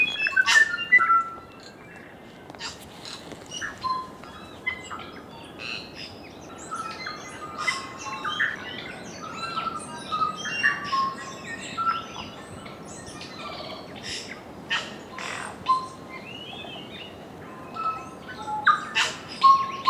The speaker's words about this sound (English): Although it's rare to see a kiwi or hear its call, what you will hear on Stewart and Olva Islands are tuis, kakas, bellbirds, parakeets, and the other species of birds that make the New Zealand soundscape so extraordinary.